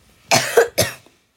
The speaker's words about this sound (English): Sorry. I've been getting a cough lately.